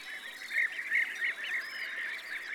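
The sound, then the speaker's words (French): A flock of about thirty birds flies fairly high over a meadow, swirling while hunting flying insects and calling continuously, with many shrill, overlapping screeches rising and falling in quick bursts, and no voices present. “On les entend toujours avant de les voir. Ils sont peut-être une trentaine et ils virevoltent en criant et en chassant les insectes volants.”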